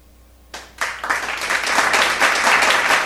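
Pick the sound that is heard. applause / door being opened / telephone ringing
applause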